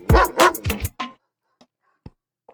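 A quick burst of several loud dog barks in a rapid rhythm, followed by a few faint, sparse yips and clicks trailing off into near silence.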